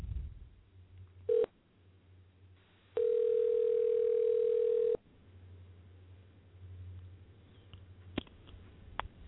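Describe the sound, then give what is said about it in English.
A brief telephone tone blips as a Skype call is placed to a guest, then a loud, steady dial tone holds for about two seconds over a low line hum, followed by a couple of sharp clicks. No one speaks. “Let's see if they answer the phone.”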